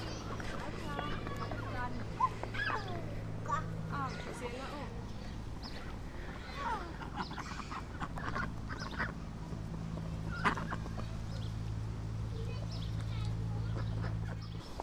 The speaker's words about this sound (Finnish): Noihin hevosiin ja poniin verrattuna nämä ankat kyllä on vähän sosiaalisempia. Selkeästi käyvät jonkinnäköistä kahvipöytäkeskustelua samalla kuin tuossa maata kuopsuttelevat nokillaan. Selkeästi ankat myös liikkuu enemmän tämmöisessä ryhmässä.